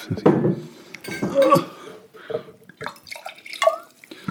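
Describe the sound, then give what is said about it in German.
Water splashes and drips while a wine glass is rinsed, with several bright, ringing clinks of glass against glass or a hard surface, fairly clear, no talking. “Schmeckt, oh, ich muss mein Glas noch schnell ausspülen.”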